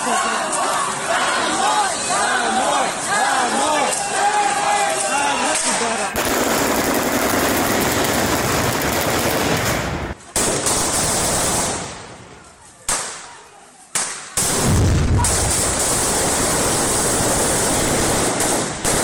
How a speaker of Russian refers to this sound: Это митинг 3 апреля в Каховке после назначения российскими силами своего человека главой города. Солдатам не понравилось то, что люди вышли на протест, их разогнали выстрелами и гранатами.